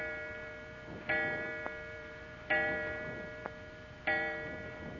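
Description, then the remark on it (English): A clock strikes four times when it is nearly 11 o'clock, with resonant, bell-like chimes about a second and a half apart, each ringing out and slowly fading, with faint ticks between them and no voices. “The clock, it struck four times.”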